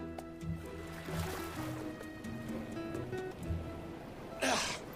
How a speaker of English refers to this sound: Now Dinky arrives at the island in a rowing boat.